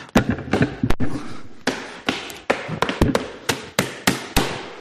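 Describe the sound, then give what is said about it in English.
Loud, heavy pounding on a door: over a dozen sharp bangs in quick, uneven bursts, forceful, with no voices. “He's actually shouting and hammering at the door because he wants our hearts and our minds”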